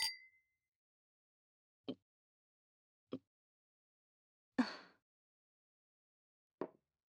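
Two glasses of wine clink once in a toast, a bright ringing chime that fades quickly, followed by a few soft, scattered taps and knocks with quiet between them. No one speaks.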